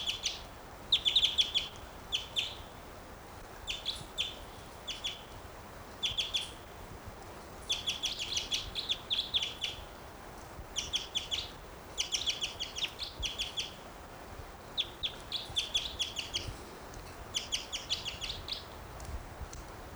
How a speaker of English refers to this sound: Wild bird.